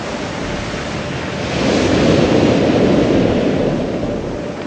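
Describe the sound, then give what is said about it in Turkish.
Pacific Ocean surf roars steadily, swelling louder midway as a wave surges in and then easing slightly, a dense rush of water with a windy hiss and no voices. “Haftalar sürecek olan bu yolculuklarının sonunda varacakları hedefse görkemlidir. Pasifik Okyanusu.”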